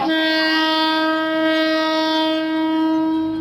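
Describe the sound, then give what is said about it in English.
A train passes through a compact community where people, awnings and shops fill the track once it has gone, its horn blaring in one loud, sustained, steady tone for the full few seconds, with no voices. “But as the end of the train goes by, suddenly the track fills up with people and with awnings and with shops, and within 15 seconds of the train having passed by, it's as if there were no train tracks, as if there was no train.”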